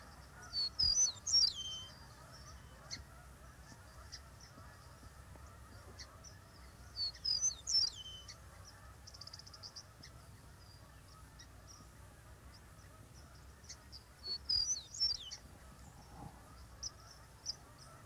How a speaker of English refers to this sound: From our open fields and meadows comes flute-like notes that tell us that a meadowlark is there.